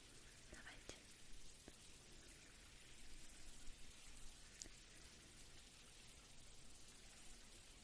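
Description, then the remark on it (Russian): Steady running water splashes and patters, a continuous soft hiss with scattered drips, as water rinses through someone's hair during a hair wash, the water neither too hot nor too cold; faint whispery sounds occasionally mix in. “Так, и идем мыть голову. Давайте потихонечку. Вот так. Будем смывать.”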